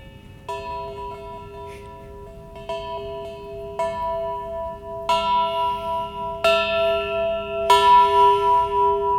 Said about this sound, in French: Ding dong ! C'était les cloches de Pâques, bien sûr.